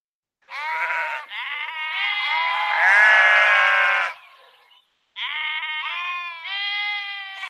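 sheep bleating

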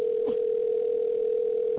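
phone call ringing unanswered

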